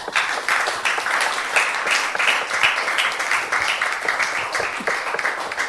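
A crowd claps steadily for several seconds, a dense, continuous patter of many hands at an even loudness with no voices over it, a last round of applause for a guest at the end of a question session in front of a camera.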